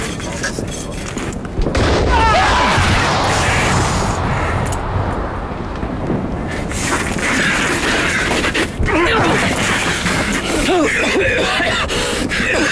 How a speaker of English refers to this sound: They're gone. No one, hearing us. Let them think it was a mortar.